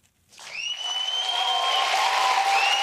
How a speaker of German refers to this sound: Unbändiger Jubel bei der CHP. Istanbuls Oberbürgermeister Ekrem İmamoğlu hat sein Amt verteidigt.